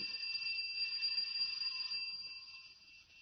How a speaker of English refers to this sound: Well, looks deserted, all right. I'll try the bell.